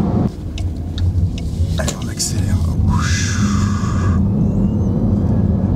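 A car accelerating at full throttle: a loud, steady low roar fills the whole stretch, with a brief high whine that rises in pitch midway before fading back into the rumble.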